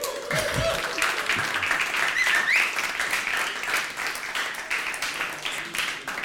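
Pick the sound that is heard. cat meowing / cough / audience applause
audience applause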